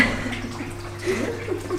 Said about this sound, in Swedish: Vattnet pålar ner för ena sidan av det nya terrariet längs en vägg klädd med stenar.